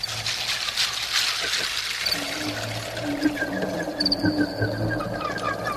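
Water trickles and pours steadily in a continuous wash, with repeated throaty fowl-like calls rising over it in the second half.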